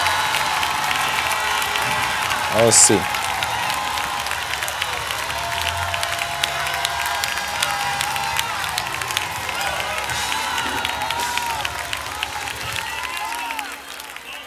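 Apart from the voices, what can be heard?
audience shouting and cheering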